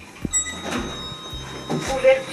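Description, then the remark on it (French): The doors of a recently renovated elevator near a town's train station slide open with a low mechanical rumble and soft whooshing, moderately loud, while a voice speaks faintly underneath. “Ouverture des portes.”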